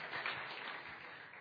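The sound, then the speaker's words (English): An audience claps during a sermon, steadily, in a dense, continuous wash of many hands, with no individual claps standing out, holding a fairly even loudness throughout. “So I close, since you have clapped the fifth time.”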